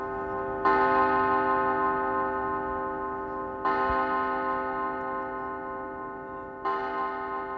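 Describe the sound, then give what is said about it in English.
A monastery bell tolls three times at 8 p.m., marking the start of the night silence, at a slow, steady pace, each strike about three seconds apart, its rich resonant ring lingering and overlapping the next. No voices are heard. “What they call the night silence begins with the 8 p.m. bell.”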